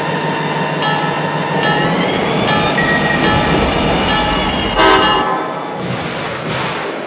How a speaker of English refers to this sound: track one. Aurora Winter Train.